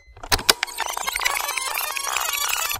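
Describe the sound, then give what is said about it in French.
A fast-forward playback effect: a couple of sharp clicks, then a steady, high-pitched chattering squeal, like sound racing by at sped-up speed for a few seconds. “Suffit d'appuyer sur avance rapide.”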